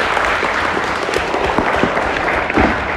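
A steady round of applause from an audience, dense overlapping claps forming a loud, continuous wash of sound with no voices standing out.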